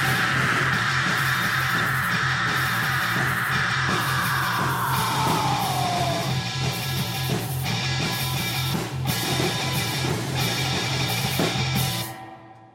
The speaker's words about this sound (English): Yeah. Yeah, there's the screaming we were promised.